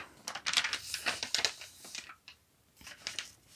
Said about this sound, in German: So, ich muss mal einmal umblättern.